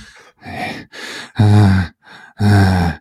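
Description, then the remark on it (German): A voice imitates another person's heavy snorting and grunting: breathy, noisy snorts alternate with two loud, low, voiced grunts, about six rough bursts in quick, uneven succession with no words. “Und ich versuche es jetzt mal nachzumachen.”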